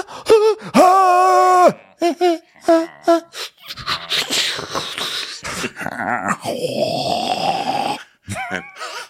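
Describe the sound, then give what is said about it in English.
A voice mimics a group breathing heavily: strained, wheezy gasps and groans, a few whimpering tones, then a long stretch of ragged panting, loud, with no other talk. “And then we hear them all breathing, and this group makes for an interesting chorus of breathing.”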